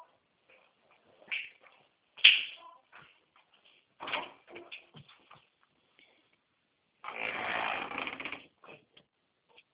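A kitten inside a bag makes a few short, thin mews amid scattered rustling and scratching as it shifts around, with one longer scrabbling rustle near the end. Nobody speaks.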